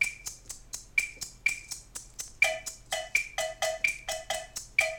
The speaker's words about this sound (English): There's a feeling of two and four and you're using the clave, the maraca, the same way. Let's get that going. One, two, three, four. That's good. Now the cowbell is the difference. Here's the jazz effect.